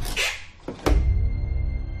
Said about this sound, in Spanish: abrió la puerta